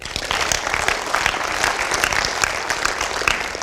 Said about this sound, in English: So he'd say yes. Y'all clap for him.